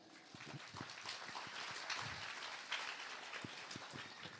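audience applause

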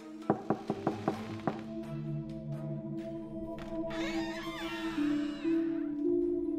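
door being opened

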